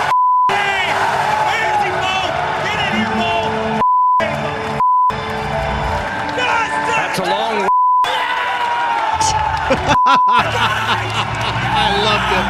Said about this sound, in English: This is just an actual piece of audio that I bleeped for content. This is what went out on NBC. Every time you hear a bleep, it's something that shouldn't have gone out on the national broadcast. It's the F-word, mostly.